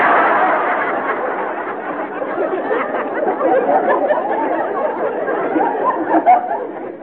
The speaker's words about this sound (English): You must be popular. What applause you got. All right, all right. They whistled and everything.